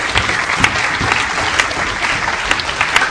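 Steady audience applause for the Iraqi journalist who threw shoes at George W. Bush, many hands clapping in a dense, continuous patter with sharper individual claps popping out; loud and sustained throughout, with no voices over it.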